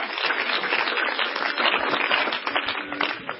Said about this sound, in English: If you believe that, clap your hands unto the Lord. Hallelujah.